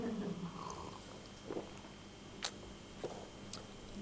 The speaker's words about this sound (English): I'll have a sip.